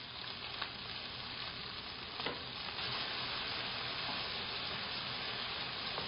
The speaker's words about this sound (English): When your vegetables are frying in this ginger garlic paste, add salt.